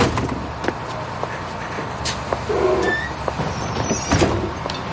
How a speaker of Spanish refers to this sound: baja de un autobús.